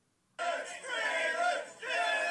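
A crowd chants "Do it" in unison, a loud, sustained roar of many voices with a rhythmic two-syllable pulse, briefly dipping before swelling again, as a man prepares to jump and crush a table.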